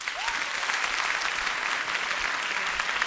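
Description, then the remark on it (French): An audience applauds steadily to show they know the hosts' show, a dense wash of many hands clapping at an even level throughout, with no one speaking over it. “Par applaudissement, qui connaît notre podcast On se tient au jus?”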